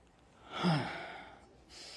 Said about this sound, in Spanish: Déjame cachar mi respiración.